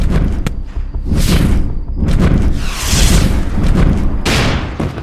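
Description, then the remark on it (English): A series of loud, heavy explosions, including a rocket strike, booms in quick succession across a field, each burst hissing and crackling before fading into a deep, continuous rumble. No voices are heard. “Another explosion and I flew backwards, tumbling over shrubs and rocks.”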